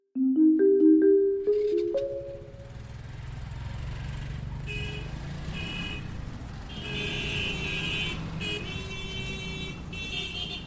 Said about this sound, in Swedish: Det är en grå höstdag i oktober. En buss kör genom trånga kvarter utanför staden Hangzhou i östra Kina.